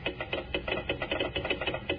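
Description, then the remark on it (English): Rapid mechanical clicking of a real telegraph set's key tapping out a Morse code message reading "Kellogg's Rice Krispies, snap, crackle, pop", short and slightly longer taps in an uneven rhythm, fairly loud and alone with no voices. “A real honest-to-goodness telegraph set.”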